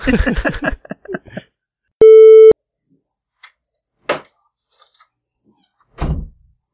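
A brief muffled voice, then a short electronic beep tone, followed by two separate solid thunks of doors closing, spaced a couple of seconds apart in otherwise quiet surroundings.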